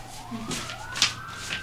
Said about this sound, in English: Wow, so still sirens are going off. Yeah. Must be a doozy.